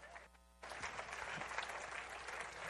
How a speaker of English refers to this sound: All right, give him a good clap.